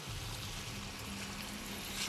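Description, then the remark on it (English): Steady rushing and gurgling of flowing water as brownish springtime stream runoff is collected into a container, continuous for about two seconds with no voices. “In the springtime, I have to get water different places like this.”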